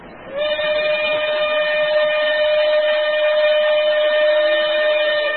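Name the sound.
steam train whistle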